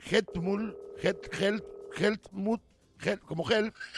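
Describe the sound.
A steady electronic telephone tone hums for a couple of seconds, like a line ringing or dial tone, as a phone call is placed to the security director of Munich Airport, partly under a person talking at moderate volume.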